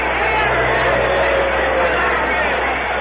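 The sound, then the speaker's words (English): A large baseball crowd jeers batter Johnny Bench after he pops up a jammed fastball, caught by Sutton on the infield fly rule, a dense, steady roar of many voices blending into a loud, continuous wash of noise with no single voice standing out. “Gabarkiewicz and Sutton, and Sutton makes the catch on the infield fly rule, and the crowd gets on Johnny Bench.”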